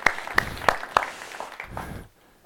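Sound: round of applause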